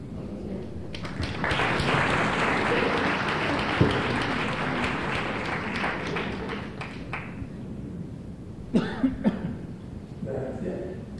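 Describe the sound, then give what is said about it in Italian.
Audience applause at an evening talk as a speaker is given the floor builds quickly into dense, steady clapping for several seconds, then thins out and fades, followed by a few sharp taps and a voice starting to speak. “Chiedo scusa per il tuo applauso, per questa voce maledetta”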